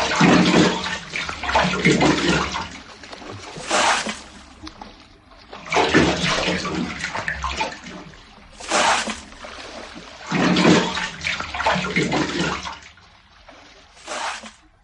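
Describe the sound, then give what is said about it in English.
Water being bailed out with a hat: repeated scooping splashes and pours, each burst of sloshing water a couple of seconds long, coming in an uneven rhythm, fairly loud. “He took it off and began bailing out the water.”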